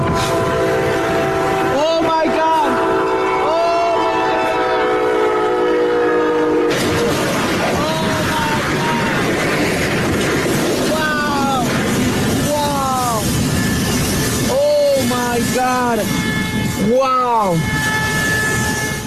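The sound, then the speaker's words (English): A train horn blares steadily, then gives way to a loud, continuous roar of crunching, grinding metal, punctuated by repeated high squealing screeches as the train smashes through brand-new cars, recorded on a phone. “listen to the beautiful sound of the destruction of about $200,000 worth of cars happening right in front of your face”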